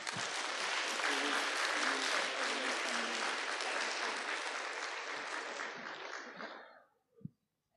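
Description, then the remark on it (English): Sustained audience applause at a school event, dense and steady clapping at a loud level for about six seconds, then quickly tapering off into silence with a single faint thump at the end. “Round of applause again, please.”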